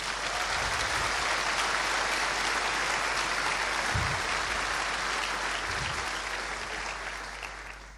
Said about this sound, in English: They are owned by the ULB, the Free University of Brussels, and they have kindly welcomed us in their buildings for the past 20 years, so let's also give them a big round of applause.